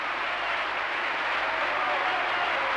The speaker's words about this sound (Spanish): Giuseppe Di Stefano, María Meneghini Callas y Piero Campolonghi están en el proscenio de Bellas Artes recibiendo los aplausos del público.